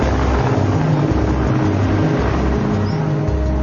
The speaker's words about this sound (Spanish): El helicóptero del ejército alza el vuelo.